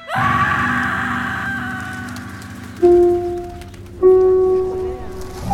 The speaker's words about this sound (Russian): Этель пошла туда, откуда выбежал юноша, и Булонский лес пронзил крик ужаса